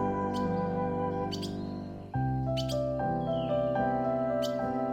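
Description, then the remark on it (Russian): Brief bird chirps pop up a few times over a steady bed of sustained, chord-like musical tones that shift pitch every second or so; no one speaks. “И по кустам межи соседней под возглашенье гулких сов внимаю, словно за обедней, молебну птичьих голосов.”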